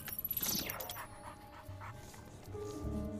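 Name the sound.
dog panting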